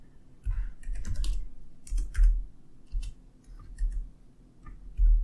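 Quick, irregular clacking of keys on a computer keyboard, in short bursts with brief pauses between them, and no one speaking.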